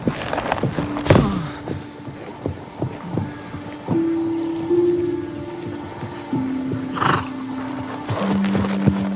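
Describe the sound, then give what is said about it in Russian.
A horse, Orlik, neighs and whinnies repeatedly as its wounded Gypsy rider, fleeing a chase, falls from it; long shrill calls rise and trail off, with scattered hoof thumps and scuffling around them and no voices. “Цыган отрывается от погони, но все же раненый, обессиленный, падает с коня.”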